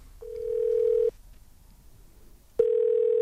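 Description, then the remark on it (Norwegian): A steady, clean telephone ringback tone sounds twice, each long beep about a second, separated by a pause, heard alone as an outgoing prank call from a radio program to a member of the public waits to connect. “Så vi har en spalte som vi liker å kalle tre på hos Radio Førde, hvor vi ringer folk”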